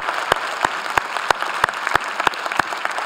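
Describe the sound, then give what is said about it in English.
An audience applauds veterans on Veterans Day in a steady, dense wash of clapping, with sharper individual claps punching through at a regular, rhythmic pace. No one speaks over it. “So I want to add to all the campus pastors in saying Happy Veterans Day, and I know you've applauded on all of our campuses. One more time for all of our veterans.”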